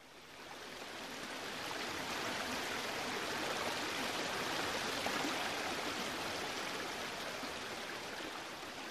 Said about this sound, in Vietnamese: Mấy anh em Long Vương dẫn ngay các loài thủy tộc nhằm vào đám lửa của yêu quái phun mưa xuống. Mưa to quá